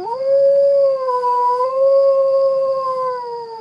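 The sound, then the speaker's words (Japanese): A single dog howls in one long, sustained, wavering note that rises at the start, holds steady for several seconds and fades slightly at the end, loud with no talking, on a quiet, warm spring night. “やっぱりまたあのうるさい犬。”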